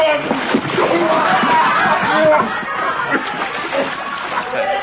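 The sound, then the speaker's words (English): A heavy splash as a man is dumped into water to cool him off, followed by continuous sloshing and churning, with raised voices and a bit of laughter mixed in. “Sorry to do this, …, but now we put you in water.”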